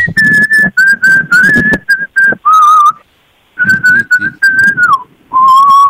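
Someone whistles a song melody, clear sustained notes rising and gliding between pitches in phrases, with a brief pause midway and no talking.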